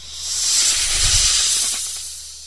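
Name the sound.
snakes hissing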